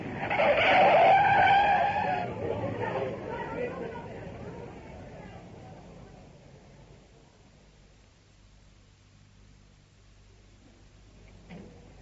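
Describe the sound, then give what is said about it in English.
A car skids as it hits a man who ran straight into it while it was accelerating, with a loud tire screech for the first couple of seconds, then the noise fades into a low, rumbling hum that trails off. “Well, he ran straight into us, just as we were accelerating. I tried to stop him.”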